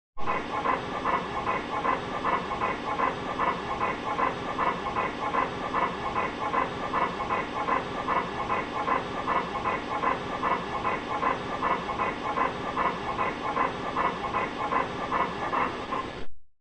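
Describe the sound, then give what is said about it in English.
A panting Labrador with partial laryngeal paralysis pants rapidly and steadily, each inward breath carrying a harsh, high-pitched rasping inspiratory stridor, continuing without pause and with no voices. “Listen to the inspiratory stridorous component of the respiratory sounds of a panting Labrador with partial laryngeal paralysis.”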